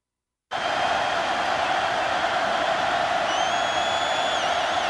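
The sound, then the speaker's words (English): A huge stadium crowd roars steadily and loudly after a brief silence, a dense wall of cheering with faint high whistles rising above it near the end. “Listen to that crowd, Mary Jo. Oh, they were fired up at this point in the game.”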